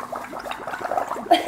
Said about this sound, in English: They're making bubbles in their juice.